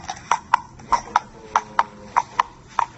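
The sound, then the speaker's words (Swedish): Horse hooves clip-clop on asphalt in a steady walking rhythm, about a dozen sharp, hollow knocks in pairs, clear over faint background noise. “En häst som går på asfalt.”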